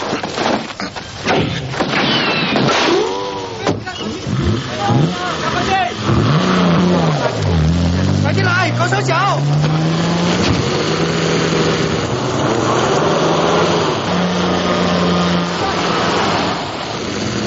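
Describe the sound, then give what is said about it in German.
The engine of 007's gadget car revs hard during a chase, its pitch sweeping up and down repeatedly amid loud clattering, cracking noises, with the roar continuing steadily to the end. “Und jetzt spielt 007 ein bisschen mit seinem Zauberauto.”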